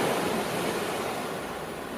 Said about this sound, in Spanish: Es el movimiento sinuoso del agua del mar, el viento en las palmeras y, como no, las olas.